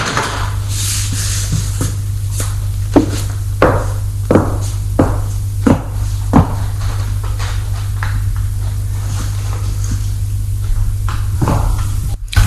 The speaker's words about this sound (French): Et l'homme ferme la porte.